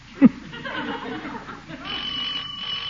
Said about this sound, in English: Doorbell.